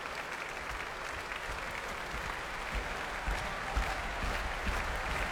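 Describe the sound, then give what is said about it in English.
A large crowd in an arena claps heavily and continuously, a dense wall of applause with low thudding stamps rising underneath, growing a little louder toward the end, as a pianist returns to the stage for an encore. “And to stamping and heavy clapping from the arena, he's back on stage for an encore.”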